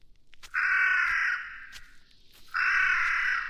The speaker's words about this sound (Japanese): 周囲から聞こえてくる鳥、夜鷹の類の鳴き声であろうか。種類まではわからないが、森に住む鳥のざわめきがあなたを警戒するように、あるいは森の奥へと誘うかのように泣き続けていることが、